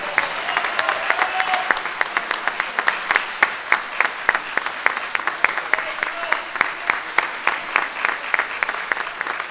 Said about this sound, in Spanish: Fantástico. Bravísimo. Un aplauso para Juan Pablo, que tocó de memoria...